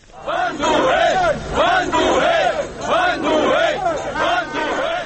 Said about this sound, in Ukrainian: Кричали демонстранти